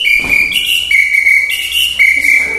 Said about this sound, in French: J'ai plein de petits instruments, et notamment aussi, alors ça fait beaucoup de bruit, le sifflet, c'est le sifflet du chef d'orchestre.